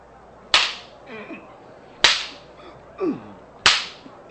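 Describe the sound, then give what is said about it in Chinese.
Three loud, sharp whip lashes crack at slow, even intervals, each ringing briefly, with faint strained vocal sounds like groans between strikes, as soldiers whip Jesus, stripped and tied to a pillar, on the governor's order. “士兵们，剥下他衣服，绑在柱子上，开始用鞭子狠狠地打。”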